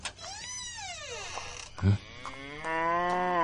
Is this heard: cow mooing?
yes